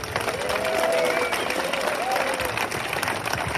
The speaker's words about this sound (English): And now I'd like to hand over to Mr. Paul Halloran. Round of applause for Paul.